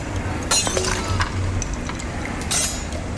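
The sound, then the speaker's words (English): A blown glass piece is knocked off onto the ground and shatters with a bright, crashing burst, followed by scattered tinkling fragments, then a second sharp crash of breaking glass over a steady low hum. “Piece was worthless, so I just knocked it off into the ground.”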